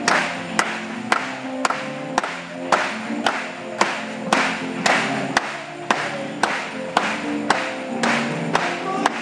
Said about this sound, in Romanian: Hai să aplaudăm lui încă o dată.